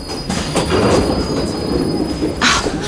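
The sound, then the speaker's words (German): A subway train rumbles steadily along with a loud, continuous low roar, a thin high squeal from the wheels sustained throughout and a brighter screech flaring up near the end. “Heute kommt mir die Fahrt mit der U-Bahn irgendwie länger vor als sonst.”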